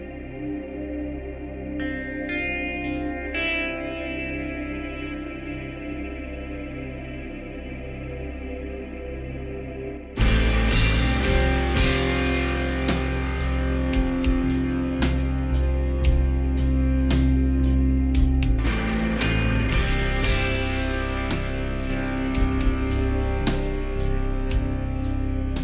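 Drone rock band music: a sustained, droning harmonic tone builds for about ten seconds, then a loud full band crashes in with heavy drums and repeated cymbal hits. No one speaks.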